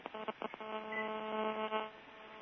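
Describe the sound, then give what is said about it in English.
Phone dialing tones as a call is placed to ring the caller's own registered phone: three or four quick beeps followed by a longer, steady, slightly buzzy tone lasting over a second, fairly clear, with no talking. “I'm calling it. It's going to ring my phone that it's registered with and the PLA a bunch of times, and you guys are going to hear this.”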